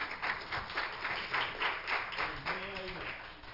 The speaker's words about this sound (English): God bless you. Give the Lord one more hand clap of love.